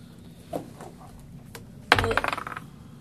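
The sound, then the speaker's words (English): A few faint clicks, then dice rolled during a game clatter sharply onto a hard table, bouncing and rattling for about half a second before settling. Fairly loud, with no talking. “You rolled his armor class.”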